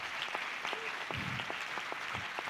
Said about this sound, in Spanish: Ay, ay, ay. Si ese es el aplauso.